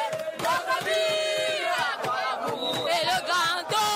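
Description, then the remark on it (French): A large patriotic crowd in the streets at the Poste Central in the city centre, Cameroon, chants and shouts with fervour, singing the refrain of Cameroon's national anthem, many voices overlapping in loud, sustained cries and rising whoops, the roar steady and dense throughout. “Le lieu-dit poste central, au centre-ville, devient un point de convergence des foules entières à la ferveur patriotique.”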